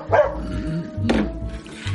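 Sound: dog barking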